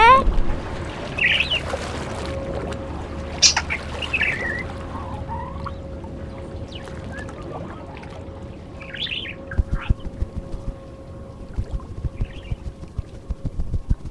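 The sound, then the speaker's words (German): Bright little chirps from a budgerigar aboard a moving ship pop out in short scattered bursts over a steady low engine rumble and a faint constant hum. “Ist das da oben eine Möwe? Nee, das ist ein Wellensittich.”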